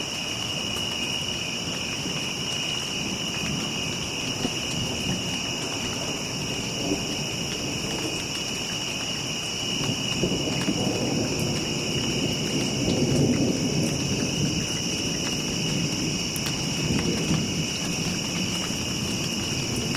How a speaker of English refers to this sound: Late night, lightning on the horizon, reports of storms on the way. There's nothing like standing on the porch, waiting for it to blow in.